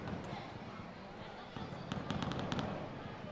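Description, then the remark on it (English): Fireworks pop in the distance, apparently behind a baseball stadium during a game, in a quick cluster of sharp cracks over a steady crowd murmur; the bursts are faint and far off, arriving in an irregular burst near the end. “And it sounds like there's some type of fireworks going off in the distance somewhere, but I can't see where, so it must be behind the stadium.”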